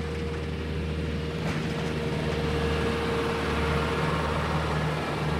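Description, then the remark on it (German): A steady, droning engine rumble with strong low hum and tonal whine holds evenly throughout as a tractor drives past gritting frozen paths outdoors on a dark, cold morning around 7:30, with a faint gritty hiss above; no voices. “An uns fährt ein Traktor vorbei und streut die gefrorenen Wege.”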